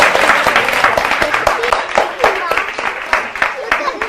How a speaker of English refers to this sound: And she's not the slightest bit traumatized by our cheering.